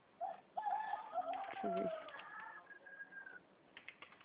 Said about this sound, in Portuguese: Nossa, quanto tempo que eu não escuto esse barulhinho de galo cantando? Ai, menina, você não sabe onde eu tô. Eu trabalho numa escola e a gente está no planejamento. E aqui, como tem, acho que, escorpião, eles colocaram galinha para matar escorpião.